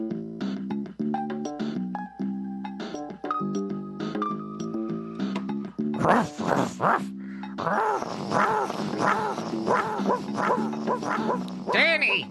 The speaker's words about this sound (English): Danny, my dog.